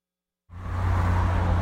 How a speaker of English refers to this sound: It's rush hour in Wallingford. Commuters are stepping off a bus, closing up their laptops, and heading into the evening sun. It's not public transit. It's a Microsoft Connector bus.